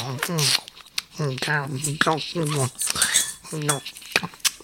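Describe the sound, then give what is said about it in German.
Loud, wet smacking and chewing noises mixed with voiced humming grunts, like a hedgehog eating scrambled eggs greedily with mouth open; a voice imitates the munching in quick, uneven bursts. “Oh, du schmatzt aber ganz schön.”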